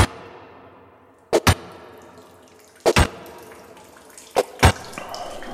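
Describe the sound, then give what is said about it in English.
Water gushes in a steady stream as a rock is broken open in a long, hot tunnel, interrupted three times by pairs of sharp, loud knocks like stone striking stone. No one speaks. “Hans breaks a rock and finds water.”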